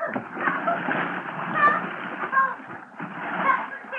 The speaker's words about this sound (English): Oh, December is a great month for a dip into the river if you're a polo bear, but in I went.